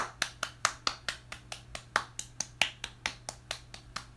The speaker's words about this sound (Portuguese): É as palmas, gente. As palmas que eu tô dando pra vocês.